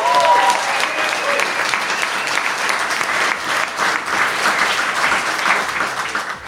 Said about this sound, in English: And thank you to you guys. Give yourself an amazing cheer. Come on.